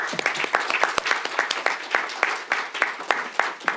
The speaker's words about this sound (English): Thank you so much for coming up. Please stand up so we can give you a round of applause.